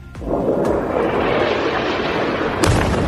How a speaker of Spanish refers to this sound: Aviones e impactos de bombas de esta misma mañana